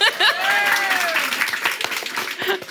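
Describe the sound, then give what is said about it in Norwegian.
An audience applauds a guest's husband steadily for a few seconds, dense overlapping claps with a bright, even texture, and a single voiced whoop rises and falls early on over the clapping. “Applaus for deg også.”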